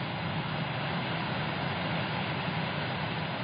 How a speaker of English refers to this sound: The roar you hear in the background is Ashley Creek, flowing underneath Highway 191 in Vernal.